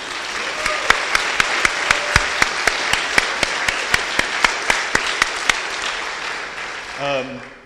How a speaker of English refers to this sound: Well, give a round of applause for my family being here, first of all.